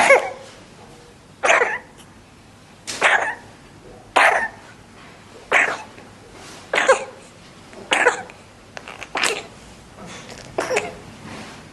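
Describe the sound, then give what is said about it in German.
An infant coughing repeatedly, about nine harsh, wet-sounding coughs in a steady rhythm roughly a second apart, with quiet breathing between them and no talking; an audio file played as an example of what an RSV cough in a young infant might sound like. “Gerald, könnte sich so ein RSV-Husten anhören?”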